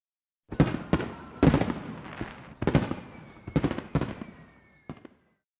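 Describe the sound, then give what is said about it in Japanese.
A series of loud fireworks bursts at a fireworks festival with over 250 years of history on the Sumida River in Tokyo, Japan: around seven sharp booms at irregular intervals, each with a crackling, rumbling tail, one faint whistle trailing across the middle, with no voices. “今年も花火のシーズンになりました。”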